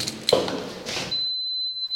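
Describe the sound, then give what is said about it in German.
After some shuffling noise, an alarm system lets out a steady, high-pitched electronic beep that holds for nearly a second, clear, on the first upper floor of a building's art and culture floor with a permanent exhibition. “Jetzt piept es hier an.”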